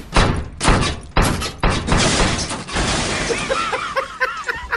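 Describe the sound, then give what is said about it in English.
A refrigerator, being lowered down the stairs during a house move, thuds and bangs in a quick series of loud, heavy crashes, then settles into rattling, followed by a few high squeaky chirps toward the end. “I'll just lower this refrigerator down the stairs.”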